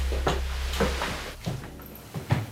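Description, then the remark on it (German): A door in a small corridor leading to a toilet is carefully eased open with a series of soft clicks and knocks, quiet, followed by a faint creak and a couple of small thuds as it settles. “In dem kleinen Gang, der zur Toilette führt, ist noch eine Tür. Hakim öffnet sie vorsichtig.”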